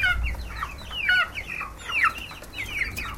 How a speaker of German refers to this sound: Während sie erzählt, marschiert vor der offenen Haustüre eine Hühnerfamilie vorüber.